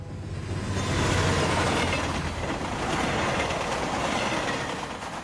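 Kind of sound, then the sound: vehicle, train sound effect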